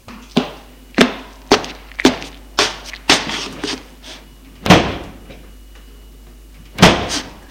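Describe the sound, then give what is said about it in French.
A run of sharp footfalls or handling knocks leads into a heavy car door thudding shut, followed a couple of seconds later by a second solid door slam, as a man walks to a car and gets in, in freezing weather with frost falling. No one speaks. “Il se dirige vers la voiture et rentre dedans.”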